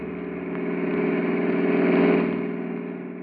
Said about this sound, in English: It is early morning, September 29th, 1936. On the wide cement highway leading out of Olympia, Washington, two boys stand, thumbs pointed south in the familiar gesture of the hitchhiker, and watch the steady line of cars as they speed by.